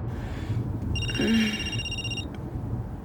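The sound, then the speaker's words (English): A telephone rings in one sustained, high-pitched electronic burst lasting over a second, heard fairly clearly over a steady low background rumble. “I've been ringing for long. Just started. Hello? Who is it?”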